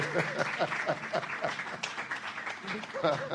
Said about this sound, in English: I think this is a good place to clap, please.